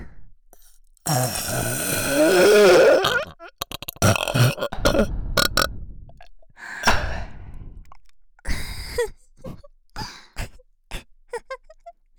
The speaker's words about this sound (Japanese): このままエグいゲップで頭バグらされながらの射精一直線コース、濃厚ドロドロの陰霾空間で精液吐き出しちゃいまちょうね。